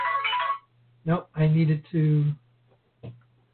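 phone ringing

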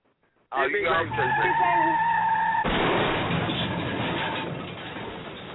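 car tires skidding

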